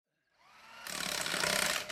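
A tractor engine that is being worked on cranks up with a rising mechanical whine, then bursts into a loud, rough, rattling roar that holds steady. No one speaks.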